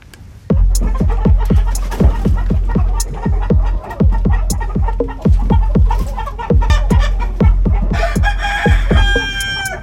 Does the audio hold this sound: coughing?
no